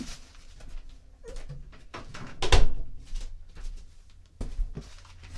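door being closed

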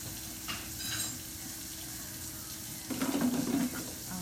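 water running

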